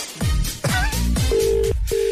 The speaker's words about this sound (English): It's ringing.